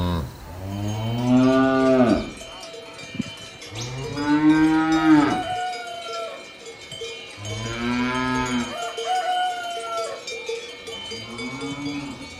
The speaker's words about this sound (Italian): Il suono più caro e familiare nella mia vita sono state i campanacci delle mucche.